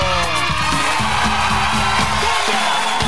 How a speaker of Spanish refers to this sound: ¡Aplauso!